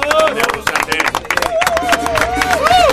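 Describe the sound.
A small group in a radio studio applauds a visiting cumbia band with dense, steady clapping throughout, loud and continuous, while raised voices whoop and cheer over the claps.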